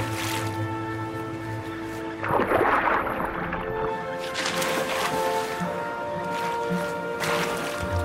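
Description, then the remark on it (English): Several watery splashes and plops as a cascade of penguins plunge into the sea, a louder burst near the start and another later, heard under a steady, sustained musical backdrop. “A cascade of penguins enter the sea.”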